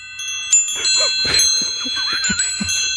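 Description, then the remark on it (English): Wind chimes ring with several overlapping metallic tones that shimmer and hang in the air, struck repeatedly at an irregular pace, clear with soft clinks and rustling underneath. “It's supposed to be a pleasant, soothing sort of sound. That's why people have wind chimes, I think.”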